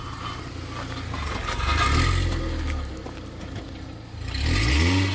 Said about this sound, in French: Oui, elle fait un peu de bruit, la voiture du garage.